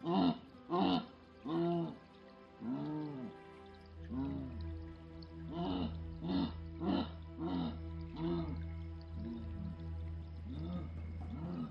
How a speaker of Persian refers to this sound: ولی صداشون رو شنیدم، صدای جگوارای اینجا رو. صداشون چجوریه؟ صداشون خیلی کلفت و تو گلوییه، مثل صدای گاوا، همینجوری.